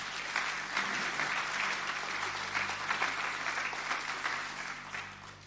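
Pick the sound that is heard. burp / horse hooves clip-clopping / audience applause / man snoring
audience applause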